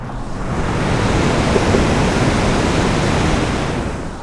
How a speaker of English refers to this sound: So, of course, that's water running under the dam